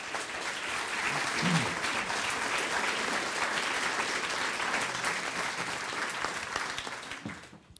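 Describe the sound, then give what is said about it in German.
An audience claps steadily for several seconds to welcome a guest at a literary event, a dense, even wash of applause that holds strong before tapering off near the end. “Und ich heiße herzlich willkommen, bitte einen Applaus für”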